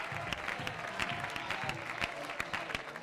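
audience clapping hands

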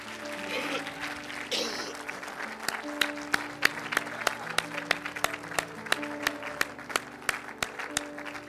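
audience applauding

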